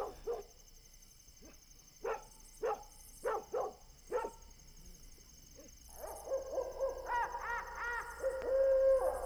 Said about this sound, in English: A dog can be heard barking far off toward the valley.